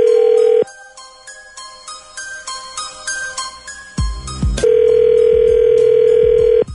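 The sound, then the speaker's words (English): A phone call being placed to a caller's boyfriend: a steady dial tone, a quick run of a dozen pitched keypad beeps, a brief clunk, then a long, even ringing tone on the line. No voices. “Hang on the line. We'll call your boyfriend when we come back next.”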